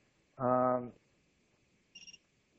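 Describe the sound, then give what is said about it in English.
A cell phone rings: one loud, buzzy electronic tone about half a second long, then a brief, faint, high chirping trill a second later. “I know I haven't made an argument, but I haven't turned off my cell phone either.”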